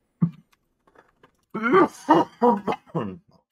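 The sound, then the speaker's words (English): A loud coughing fit: one short cough, a pause, then four harsh, throaty coughs in quick succession, each with a hoarse voiced edge. “On that coughing bombshell, too, I can tell you about some of the things I found.”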